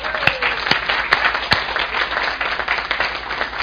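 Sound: audience clapping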